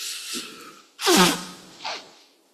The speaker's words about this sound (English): Excuse me if I keep blowing my nose, the old hay fever's getting to me.